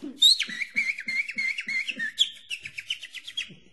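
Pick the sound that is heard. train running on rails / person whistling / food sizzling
person whistling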